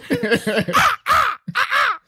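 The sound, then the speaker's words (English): A crow caws loudly, three harsh, raspy calls in quick succession, preceded by a brief burst of throaty, voice-like squawking. “It's a crow solo.”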